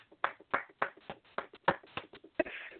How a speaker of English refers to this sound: I need some hand claps.